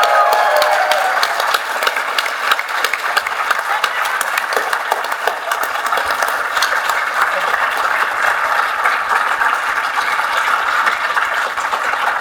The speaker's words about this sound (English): Please give a big round of applause for all these guys who are the esteemed alumni.